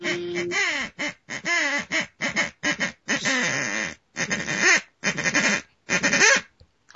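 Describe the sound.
A duck call blown in a loud, rapid run of about a dozen raspy quacks, some short and choppy, others drawn out, with brief gaps between them and no voices.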